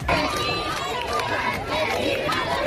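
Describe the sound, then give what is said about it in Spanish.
A large crowd cheers and shouts with joy for Pope Leo XIV as he passes standing in the Popemobile along the main facade of the Royal Palace in Spain, many voices overlapping in a steady roar, with scattered applause breaking through; loud and continuous throughout. “El momento, gritos de alegría, aplausos, vítores a León XIV que ha recorrido todo el frontal de la fachada principal de este Palacio Real en el Papamóvil de pie, saludando a todo el público.”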